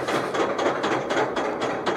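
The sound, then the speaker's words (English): A steady, rapid series of loud metallic clicks from a roller coaster chain lift, evenly spaced like a ratchet, with a rough mechanical rumble running underneath and no voices. “And you hear those clicks, the loud sound. It's really violent metal, chunk, chunk, chunk.”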